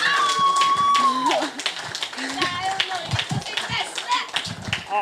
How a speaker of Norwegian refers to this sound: Jeg synes vi bare skal gi en stor applaus til to fenomenale musikkvideoer.